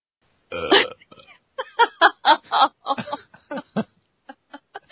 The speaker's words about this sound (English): I don't think we should have burps on the blooper reel somehow. No, because, you know, obviously, it's okay to say fuck a lot, but a burp, goodness. What would the internet say?